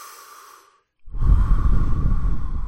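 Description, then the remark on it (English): A faint, airy breath fades into a brief silence, then gives way to a loud, drawn-out heavy exhale, rough and exaggerated, made at another person after pausing a TV show, with no talking. “Trying to imagine the chill going down Gwen's spine as you pause the show and turn to her and just start breathing.”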